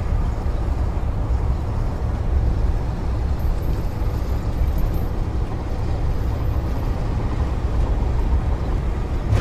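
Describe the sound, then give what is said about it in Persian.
A Nissan Patrol SUV's engine rumbles steadily with a deep, low drone as it pulls away and keeps driving, with no voices over the constant motor noise. “پاترول به راه میافته.”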